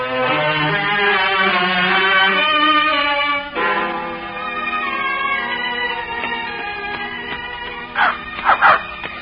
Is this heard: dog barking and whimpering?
yes